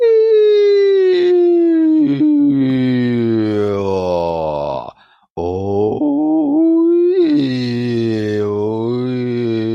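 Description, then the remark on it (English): A single voice hums continuously, gliding slowly up and down in pitch with rich harmonics to find the resonant frequency of the neck cavity, with a hand on the neck, broken by one brief pause midway before resuming its wavering slide. “Okay, put your hand on your neck and go up and down in frequency and see where it vibrates the most.”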